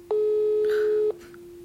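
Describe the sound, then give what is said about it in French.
A steady electronic telephone tone sounds for about a second, then drops to a fainter continuing hum, like a busy or disconnected line, as a call fails to connect because the phone network has been cut since an attack. No voices. “Le réseau s'est coupé depuis le début de l'attaque.”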